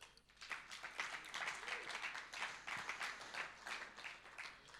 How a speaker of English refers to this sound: And this team is doing such an amazing job, you know, of leading us into the presence of God. And so please give a round of applause once more.